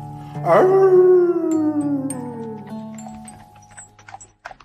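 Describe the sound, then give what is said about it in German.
A single loud wolf howl swells in quickly, then slowly slides downward in pitch over a couple of seconds and fades, leaving faint scattered clicks behind. “Und der Wolf.”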